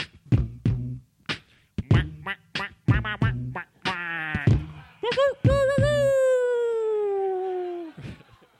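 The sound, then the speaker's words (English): A person imitates a duck with a rapid run of short, nasal quacks, then finishes with one long, drawn-out rooster-style crow that slowly falls in pitch. The mimicry is fairly loud. “This is … and a duck and a rooster.”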